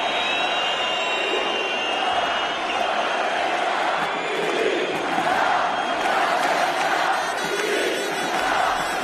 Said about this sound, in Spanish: Gritos de independencia y mucha música de viento, que diría el clásico.